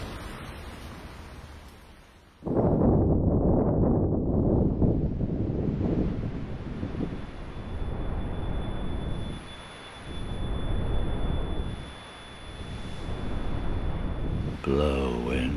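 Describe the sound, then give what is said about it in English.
Storm wind bursts in abruptly after a quiet start and roars steadily, its low, rushing noise swelling and easing in gusts, with a thin high whistle held above it. “Oh, fie on the storm!”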